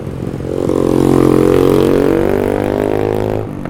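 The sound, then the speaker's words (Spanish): A loud motorcycle roars past on Avenida Reforma at the Ángel de la Reforma in Mexico, measured at 100 decibels, its engine note swelling for a few seconds with dense harmonic buzz before easing off as it moves away. “100 decibeles esa moto.”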